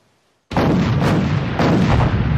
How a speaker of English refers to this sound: Black and white film showing thunderous cannon and tank fire explosions. On a pocket watch, it's 1 minute to 11.